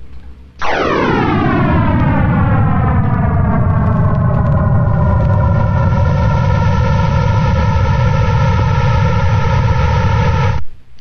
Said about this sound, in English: And so what you'll hear, this is the sound that he created, the model of the Big Bang.